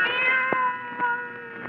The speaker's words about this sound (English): Then the silence was broken by the faint crying of one cat. The crying grew louder and louder.